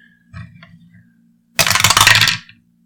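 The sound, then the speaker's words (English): A soft, muffled rattle gives way to a loud burst of hard plastic clatter, like dice tumbling down a dice tower, lasting about a second before stopping abruptly. No voices. “All right, look, this dice tower is giving me a lot of teens here.”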